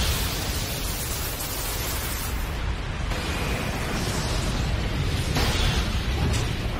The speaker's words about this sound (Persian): انفجار، انفجار، انفجار و بازم انفجار. با یه نمایش حیرت انگیز فینیکس همه رو با هم منفجر کرد.